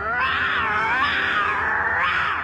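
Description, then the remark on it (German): A voice actor who specializes in vocal effects imitates a lion's roar in one long, loud growling cry whose strained pitch swells and dips, with a final surge near the end. No speech accompanies it. “Als Experte für stimmliche Spezialeffekte hat er unter anderem die Löwengeräusche für Mufasa und Simba in König der Löwen erzeugt.”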